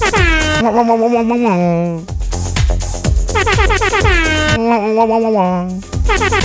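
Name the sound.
air horn sound effect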